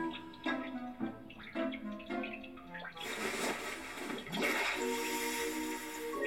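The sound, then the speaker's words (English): Water sloshes and splashes as someone wades into foggy cave water fed by a river warmed by hot springs, starting with choppy, gurgling swirls and building into a steady, louder rush of churning water. “Oh, the water is not bad.”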